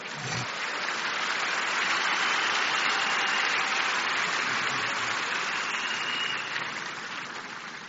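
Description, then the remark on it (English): A church audience at Shiloh 2021 claps for the Lord in a dense, steady wash of clapping from many hands that continues without a break for several seconds, then thins slightly toward the end. No voices are heard. “I can see somebody still trying to clap for the Lord.”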